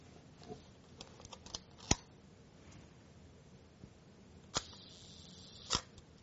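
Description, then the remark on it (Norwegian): The shutter of an old analog Pentax camera set to a one-second exposure snaps open and clicks shut roughly a second later, preceded by an earlier sharp click and faint handling ticks. Crisp mechanical sounds over a quiet background, no talking. “Kan vi høre på ett sekunds lukkertid.”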